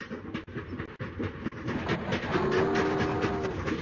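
A train rumbles along the rails with a steady, rhythmic clack of wheels over track joints and a faint squealing tone, loud with no voices.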